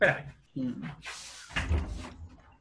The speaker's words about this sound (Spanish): Sí, dame 10 segundos que voy a abrir la puerta y vuelvo al tiro. 10 segundos.